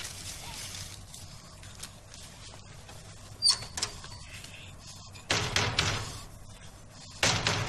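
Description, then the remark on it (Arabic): Heavy pounding on a locked door comes in a few loud, booming bursts, one brief hit followed by longer bouts of rapid blows, with quieter rumbling and shuffling in between. “افتح هذا الباب أيها القزم الحثالة، أيها الواقع القذر، افتح.”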